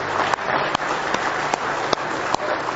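A church audience applauds steadily as a hand clap of praise, a dense wash of many hands clapping at once, with a few sharper individual claps standing out at a fairly regular pace. No one speaks over it.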